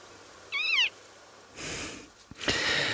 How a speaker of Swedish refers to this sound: där i en lustig spelflykt medan de ropar så här. Det låter lite komiskt, som när en hund biter i någon sorts pipleksak. Typiskt ett sånt där oväntat läte som får en att haja till, titta upp och konstatera att, ah, en rovfågel. Brun kärrhök, alltså.